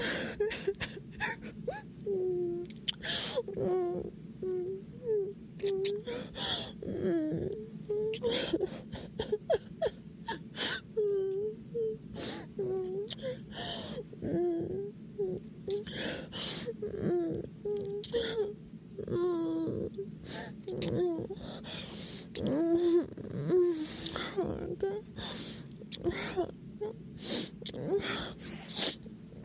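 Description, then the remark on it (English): Short, wet sniffles repeat throughout, mixed with soft whimpering and moaning vocal sounds, like someone crying quietly, with a steady low hum underneath. “Sorry, it was sniffles.”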